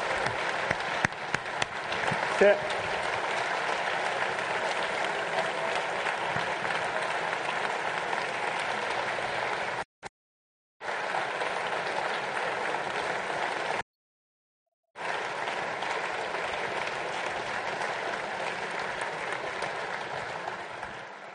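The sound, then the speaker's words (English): A large audience applauds steadily and loudly for about twenty seconds after a speaker announces a donation to a club foundation, a dense wash of clapping broken by two brief moments of silence near the end. “I don't do that so that I can get an applause.”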